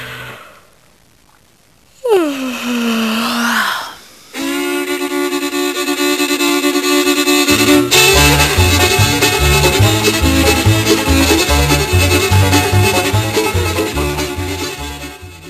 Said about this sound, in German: Ich kann diese Frau einfach nicht gähnen hören.